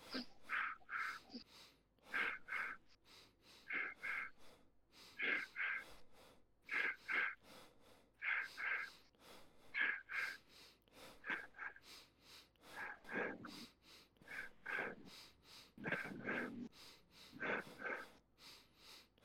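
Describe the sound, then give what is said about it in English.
Rapid, rhythmic breathing as part of a breathing exercise, sharp puffs of air following an in, out, out rhythm, repeating in quick pairs and triplets with a steady, driving pulse, no talking. “And increase the pace of this rapid breathing. And the rhythm is in, out, out, in, out, out, in, out, out.”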